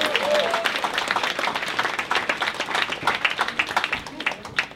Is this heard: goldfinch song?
no